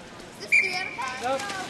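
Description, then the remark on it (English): A single quick, shrill whistle blast at a kids' log-rolling event at the Y cuts in sharply and fades within a fraction of a second, with a steady murmur of indistinct voices from relatives in the bleachers around it. “Quick whistle.”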